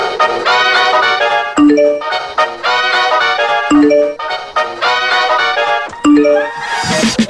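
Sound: phone message notification ding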